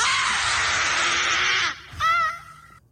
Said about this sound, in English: I wonder if she needs a lozenge after that. She does make it awkward, though, like really over the top. We just need one simple scream. Yeah, that one's a little much.